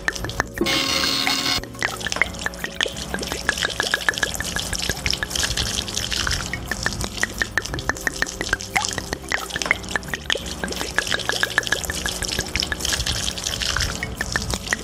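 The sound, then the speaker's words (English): Mountain Dew from a 2-liter bottle pours out onto Strong Bad's computer in a brief hissing rush, then keeps dripping and splattering in a steady stream of quick, irregular drops for a long stretch, with no voices. “Dang, this thing's like the never-ending soda.”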